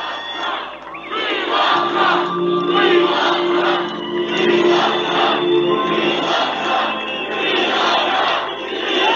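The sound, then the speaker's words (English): A large crowd at a Trump rally roars and shouts in unison, chanting "We love Trump" in rhythmic waves that swell repeatedly, loud and sustained throughout with no single voice standing out. “The crowd's going wild.”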